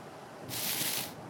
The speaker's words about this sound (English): Wait. There's that rustling noise again. Where could it be coming from?